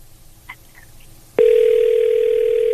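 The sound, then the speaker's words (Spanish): After a moment of quiet with a couple of faint beeps, a loud, steady telephone ringback tone abruptly begins and hums on unbroken to the end, clear, with no voices. “Y entró.”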